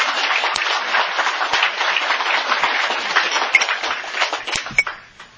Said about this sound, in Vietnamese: Cho tràng pháo tay.